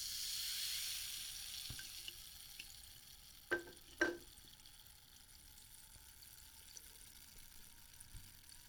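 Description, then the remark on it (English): A fizzy drink, just poured into a glass, hisses and crackles steadily and softly, with two brief clinks midway through and no one talking. “Just shut up and listen to the fizzy drink that makes nice noises, okay?”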